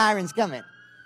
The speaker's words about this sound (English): We got the fire. We got the sirens coming.